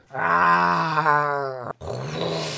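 A dragon's deep, drawn-out growling roar, loud, lasting over a second, during a St. George and the dragon fight, then a brief cut and a breathy, hissing rush of noise.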